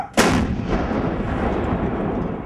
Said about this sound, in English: the rounds fired today calibrate the M777 Alpha 2 howitzer in a location where the Taliban are known to operate.